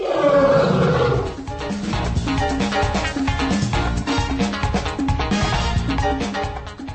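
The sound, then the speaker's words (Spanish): A lion lets out a loud roar in the opening second, then dense, busy music takes over and carries steadily to the end. “Dejamos a los leones y a los elefantes atrás”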